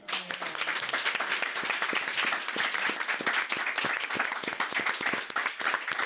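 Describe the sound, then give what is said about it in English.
An audience at the NJEA Transform Conference in Somerset, New Jersey applauds steadily for about six seconds to thank a panel, dense overlapping claps at an even, sustained loudness, with no one speaking over it. “But if we could all give a real strong round of applause and just thank our panel.”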